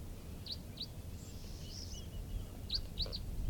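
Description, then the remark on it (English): A flock of four crossbills that has just settled, two red-orange and two brown birds, gives short, sharp chip calls in loose pairs, bright and high-pitched, over a steady low rumble of background noise. “And yet, 8:10, and a flock of four crossbills just sat down here.”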